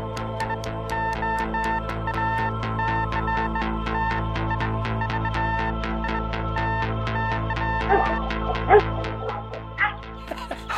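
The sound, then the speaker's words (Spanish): Dogs bark rapidly and almost without pause for about ten seconds, loud, over a steady low hum, with a few sharper yelps near the end, during a morning walk in the countryside of the sierra in Murcia, Spain. “¿Estás con los perros?”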